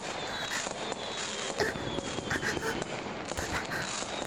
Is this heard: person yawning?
no